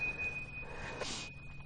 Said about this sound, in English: So, here, I'll ring the bell for you. You're allowed to open your eyes.